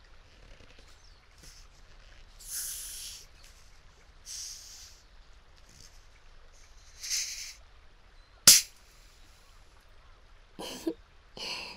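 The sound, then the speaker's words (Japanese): Carbonated water fizzes by the ear, used to remove massage oil from the ears, in several soft, hissy bursts against near silence, with one sharp, louder crackle of bubbles partway through and two quick fizzy bursts at the end. No one speaks. “炭酸水にはマッサージ効果もあるので、これでお耳のオイルを落としていきますね。”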